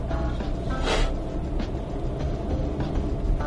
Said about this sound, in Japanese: それでですね、また車運転してますけれども、